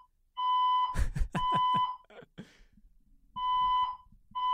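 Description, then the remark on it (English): A loud, piercing fire alarm in an apartment blares in long sustained electronic tones, sounding twice with a short pause between, while some clattering and bumping noises occur during the first blast. “So live listen to Hawk's apartment as the fire alarm goes off.”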